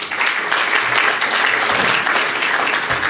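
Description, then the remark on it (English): A crowd applauds staff introductions at a CSD board of directors presentation, a steady, dense wash of many hands clapping at once, holding loud and even for the full few seconds without a break. “You know, these are really important people for me, so I'll let you clap for each of them individually, but for the most part, we're hoping that we can roll through the presentation and wait to the end.”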